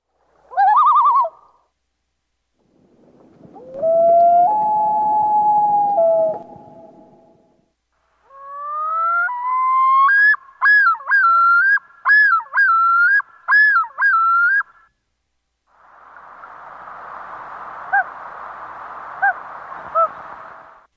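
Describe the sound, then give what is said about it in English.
A series of four common loon calls played one after another: a short hoot, a long rising wail, a looping yodel with repeated wavering notes, then a rapid quavering tremolo, each clear with brief silences between. “On this tape we're going to play, we hear 4 different sounds of loons.”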